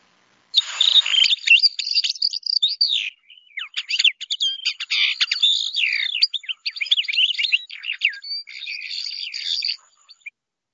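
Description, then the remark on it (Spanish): A mockingbird sings a rapid, continuous stream of high twittering notes and trills in imitation of a goldfinch's song, clear, with no voices. “Calandria imitando al jilguero.”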